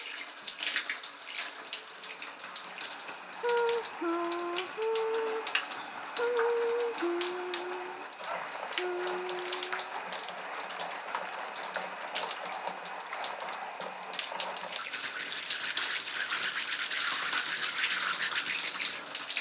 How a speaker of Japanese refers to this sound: 頭をシャワーで流すので、目を閉じててくださいね。